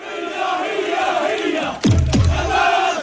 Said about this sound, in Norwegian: Hamas, ut, ut, ut, roper demonstrantene mens de går gjennom den utbombede byen Beit Lahia helt nord på Gazastripen fredag.